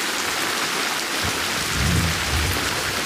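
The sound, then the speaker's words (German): Steady rain hisses across the whole clip while a low, distant rumble of thunder swells in the second half, soft and rolling beneath the downpour. “Boah, das ist das Donnergrollen, das diesen Sturzregen angekündigt hat.”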